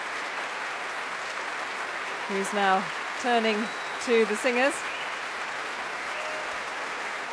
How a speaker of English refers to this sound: That applause for Geoffrey Skidmore,